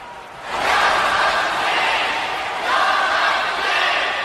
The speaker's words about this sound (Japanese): またもやロッキーコールだ。仙道この大歓声に応えることができるか。